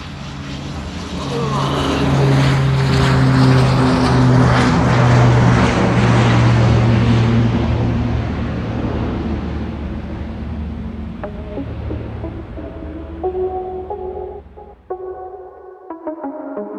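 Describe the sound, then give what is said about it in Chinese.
A jet airplane's engines roar loudly during takeoff with a steady low hum and broad rushing noise, swelling over the first few seconds and then slowly fading away, with faint tonal sounds near the end. “先生，我们飞机马上起飞了，请您把手机关一下，谢谢。”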